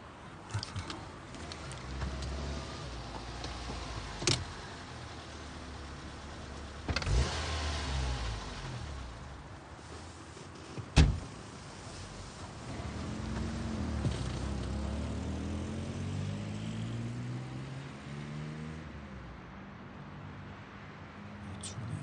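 Inside a car, a low engine hum runs throughout, with a couple of sharp clicks and a brief motorized window whir, then the engine rises in pitch as it revs up before settling.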